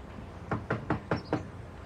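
Five firm knocks on the door of a house in a quick, even rhythm, each a sharp thud with a short ring, heard on their own against a low background hiss.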